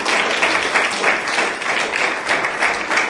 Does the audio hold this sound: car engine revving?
no